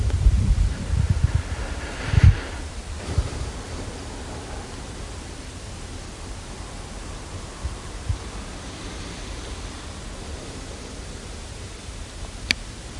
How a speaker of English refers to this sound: So this living water, we heard it. It's always flowing.